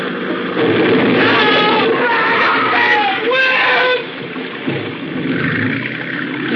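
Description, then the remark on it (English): A boat rams into another boat carrying women and children amid a loud, chaotic roar of engine and splashing water, with distressed voices crying out and screaming before the noise eases off. “They must have fell out when we hit the boat.”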